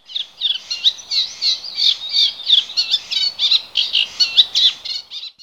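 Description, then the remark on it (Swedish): Wetland birdsong from yellow wagtails, reed buntings and reed warblers: a steady, high-pitched stream of chattering, churring phrases that rise and fall in quick pulses, with no voices present. “Medan gulbröstade gulärlor, sävsparvar och rörsångare står för sången i våtmarken.”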